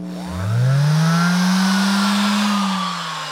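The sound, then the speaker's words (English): A guitar builder's hand sander spins up quickly into a loud, throaty, low motor drone that holds steady for about three seconds, then eases off slightly at the end, with no voices. “This is the throatier, put it in musical terms, hand sander.”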